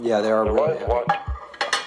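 Dishes and cutlery clatter and clink while a snack is made, a run of sharp metallic taps and scrapes over a humming, tonal background, with brighter clinks near the end.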